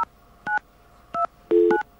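Telephone keypad tones beep in quick succession, several short dual-tone presses at an uneven pace, with a brief lower tone overlapping one press. Clear and close, no talking.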